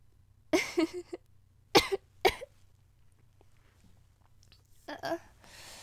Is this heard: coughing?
yes